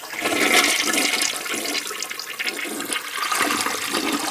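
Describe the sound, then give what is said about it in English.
A low-flow, 1.8-gallon toilet in a house bathroom flushes, a steady rushing, gurgling swirl of water that stays loud for several seconds with no voices over it. “We have the commode, which is one we put in here, one of the new efficient 1.8 gallon deals.”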